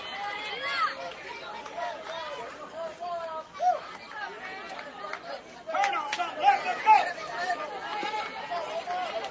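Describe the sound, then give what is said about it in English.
A baseball crowd at a tense 1-0 pitchers' duel involving Washington County fills the air with steady, overlapping chatter and murmuring voices, swelling louder partway through as the noise grows more animated, with no single voice standing out. “And the crowd is starting to get lively, starting to make themselves heard a little bit more, waiting to see how this is going to end up”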